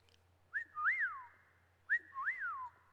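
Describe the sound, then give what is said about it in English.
A person whistles an imitation of a whippoorwill's song, two clear phrases each made of a short note followed by a louder rising-and-falling slurred whistle, with no talking. “There was an old open pit rock quarry next to Mom and Dad's house, and a whippoorwill lived out there. I knew when I heard the song of that bird.”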